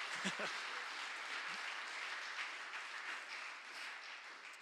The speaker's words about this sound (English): Can we give him a round of applause for being such a good sport?